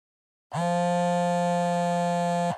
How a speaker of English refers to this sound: What's this sound? Maybe it's your cell phone ringing.